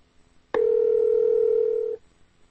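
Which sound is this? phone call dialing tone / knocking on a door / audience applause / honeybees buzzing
phone call dialing tone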